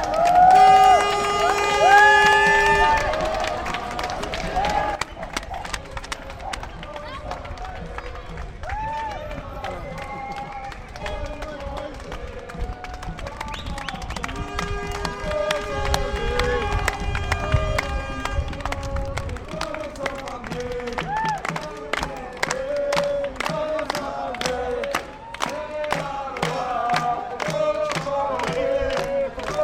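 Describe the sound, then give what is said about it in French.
A solidarity march with and without papers arrives cheering at Place Howard in Saint-Josse after walking 27 km from Leuven to Brussels, with steady shouting and chanting voices, shrill whistle blasts and sharp rhythmic claps or drumbeats running loudly throughout. “On est sur la place Howard à Saint-Josse et voilà la marche qui est en train d'arriver.”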